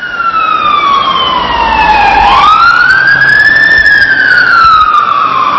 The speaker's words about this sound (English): Siren sounds like it's coming out from Garriott Road. Yeah. Relatively close to here.